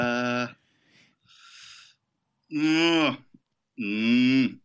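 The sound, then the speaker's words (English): A person imitates a cow, letting out three loud, drawn-out moos with a couple of breathy sounds between them. “You're just doing bovine impressions now.”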